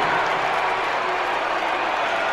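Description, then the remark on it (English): A dense, steady roar of crowd noise with continuous clapping and cheering, loud and unbroken for the whole stretch, from a packed stadium crowd at the start of a race. “Now, I find this crowd to be quite loud.”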